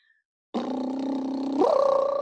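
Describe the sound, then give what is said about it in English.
A brass player's raspy lip buzz, demonstrating the air pressure changing while trying to hit a high note, starts abruptly and holds a low, steady pitch, then lurches upward and grows slightly louder partway through as the air pressure changes. “If the pressure has a huge change while you're buzzing, that's a flag.”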